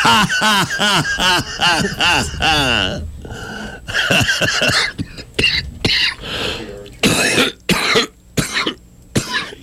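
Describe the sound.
A voice imitates a series of harsh coughs and throat clearing, loud, with several rapid hacking bursts early on followed by more spaced-out, rough coughs toward the end.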